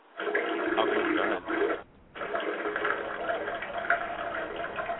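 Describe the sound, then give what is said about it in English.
A steady stream of urine splashes into a toilet bowl, running continuously apart from a brief pause partway through before resuming just as strongly. “I would like to put Having Pissing on there. That sounds like a track that would go on there.”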